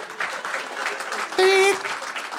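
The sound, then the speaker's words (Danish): An audience claps steadily in a dense, even patter. Midway, a brief held high-pitched cry or whistle rises above it, and then the clapping carries on. “Det er ikke noget at klappe af”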